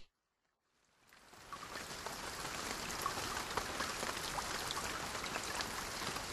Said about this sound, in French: C'est la pluie.